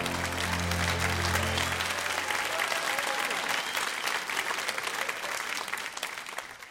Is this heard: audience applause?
yes